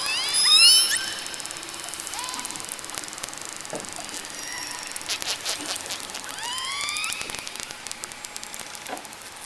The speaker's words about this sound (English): And this whistling, squawking, snapping is courtesy of the orca, also known as the killer whale.